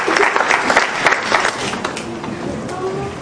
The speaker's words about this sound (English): So, you know, we can do this now spiritually. And we can say that if we look here, thank you very much. A round of applause for our volunteers. Thank you.